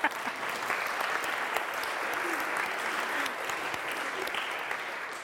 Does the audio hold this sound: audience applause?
yes